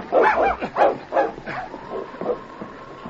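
A big dog gives a quick series of loud barks and yips as it grasps a boy's clothing and pulls hard, then trails off into softer whining and whimpering with no one speaking.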